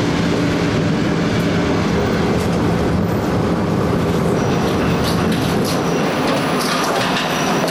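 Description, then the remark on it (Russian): An electric commuter train rumbles along, a loud, steady roar with faint rhythmic wheel clatter that holds for the whole stretch, with no voices. “До нее можно было дойти пешком, но быстрее проехать одну остановку на электричке.”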